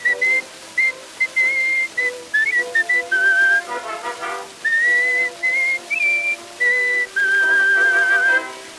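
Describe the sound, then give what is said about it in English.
A whistled melody on an Edison phonograph record from September 1, 1915, phrases of clear high notes with short pauses, backed by a tinny band accompaniment and no voices. “From all the way back on September 1st, 1915,”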